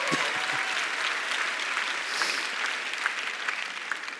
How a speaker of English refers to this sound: You can clap for your parents. They probably like that.